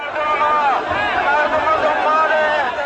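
A large protest crowd shouts and cheers together in a steady, dense roar of many voices, waving green flags and banners and shouting slogans against the government, sustained and loud throughout with no pauses or single clear speaker.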